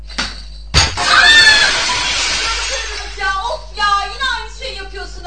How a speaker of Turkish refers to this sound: Eyvah. Cam kırıldı.